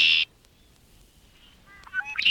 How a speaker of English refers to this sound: For example, listen to this red-winged blackbird call taped in early March after the bird returned from its southern wintering ground.